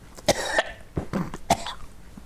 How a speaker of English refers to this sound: I'm coughing because I got something scratching my throat all of a sudden. But it was an appropriate cough for the weirdness of the thing, too.